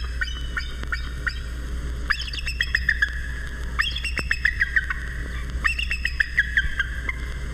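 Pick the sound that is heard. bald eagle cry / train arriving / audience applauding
bald eagle cry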